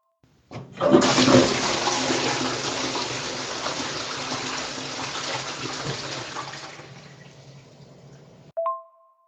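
A toilet flushes with a loud burst of rushing water that gradually tapers over about eight seconds, ending with a short tonal clunk as the tank valve shuts. No one speaks.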